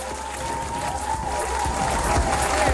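Steady applause from an audience, a dense wash of clapping that holds at a fairly even, moderate loudness throughout, with faint crowd murmur and a hint of cheering mixed in.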